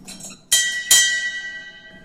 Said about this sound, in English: Tenhle zvon, s tímhle tím zvonem se dávalo vědět, že se vlastně ukončila várka piva. This bell means that the brew is done.